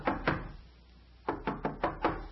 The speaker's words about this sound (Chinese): 管家，看谁在敲门了。